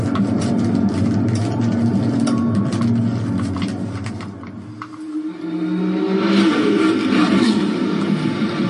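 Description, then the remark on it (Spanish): A racing video game car engine, played on an Xbox, drones loudly and steadily, eases off briefly midway, then revs back up with a rising, straining pitch. No one speaks over it. “Da más a volumen la Xbox, tío.”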